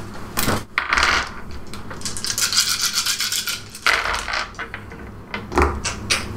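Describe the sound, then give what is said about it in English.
Four white dice rattle and tumble across a tabletop, rolled for a melee strike in a tabletop game, producing a busy clatter of sharp clicks and scrapes that comes in several bursts over a few seconds, with no voices. “If I remember right, it's 4 white dice. Couple dice.”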